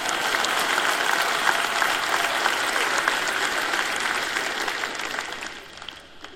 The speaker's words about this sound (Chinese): 然后你们拍手欢呼说，好极了，那真是一场精彩的特会，精彩的不得了。